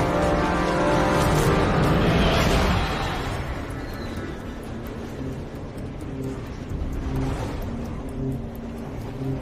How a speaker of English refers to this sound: Staring out of the front of the train, the unyielding face of the driver, as the train runs the red light and forks right down the branch line.